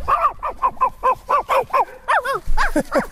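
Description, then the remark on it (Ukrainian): A tall grey-haired man on a street imitates a dog for a group of children, barking a quick series of about a dozen short, rhythmic woofs and yaps, fairly loud, with no talking. “А собачка?”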